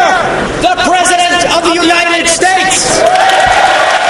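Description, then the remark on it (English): A large crowd in the House chamber at the State of the Union cheers and applauds loudly and steadily as the president approaches the rostrum, with whoops and shouted voices rising over a continuous wash of clapping. “When the applause died,”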